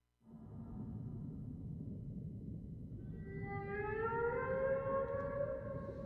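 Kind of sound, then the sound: animal, whale vocalization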